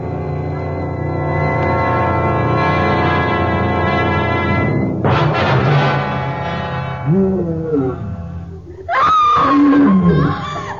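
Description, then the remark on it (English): In the jungle, a wild beast's long, deep, droning roar rumbles for several seconds, then breaks into a harsh burst, followed by a woman's high, wavering scream that rises and falls at the end. “Wild beast and the scream of a woman.”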